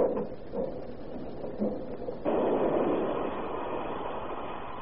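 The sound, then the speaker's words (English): A train rumbles along the track, a low continuous roar that grows noticeably louder and fuller partway through as it draws closer, with no voices over it. “Here comes the train. Right on the track.”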